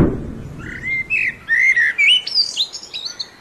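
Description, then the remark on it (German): Eurasian blackbird song: a clear, fluty warbling phrase of several rising and falling whistled notes, fairly loud, with a faint low rumble at the very start and no talking. “Das war die Amsel.”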